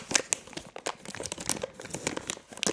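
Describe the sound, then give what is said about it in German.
A plastic bag of snack mix, offered for neutralizing the palate between wines, crinkles and rustles in quick, irregular bursts of bright, crackly noise that carry on steadily without any voices. “Hier nochmal so ein Snack-Mix. Guck mal, darfst du natürlich nehmen zur Neutralisierung.”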